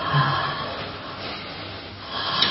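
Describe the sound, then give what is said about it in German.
An airy breath drawn audibly through the nose, one long rough intake of about two seconds that swells slightly at the end, with no talking. “Und wir atmen eigentlich.”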